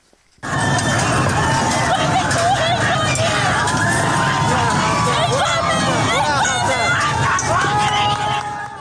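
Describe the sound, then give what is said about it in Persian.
A large crowd of protesters gathered in front of the governor's office in Fasa, Fars province, Iran, roars continuously, with overlapping shouts and raised voices forming a loud, dense hubbub that starts abruptly and holds steady throughout. “روز چهارشنبه به شهر فسا در استان فارس رسید و بر اساس ویدیوهایی که در شبکه‌های اجتماعی منتشر شده، معترضان در مقابل فرمانداری این شهر تجمع کردند”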